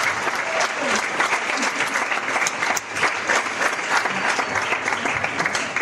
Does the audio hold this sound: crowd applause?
yes